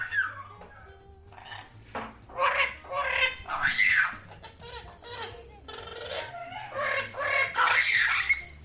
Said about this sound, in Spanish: pero los loros tienen una fantástica capacidad vocal. Mira qué clarito habla este loro, a ver si entiendes lo que dice.